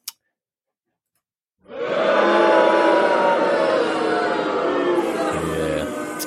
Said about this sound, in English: Boo hiss indeed here.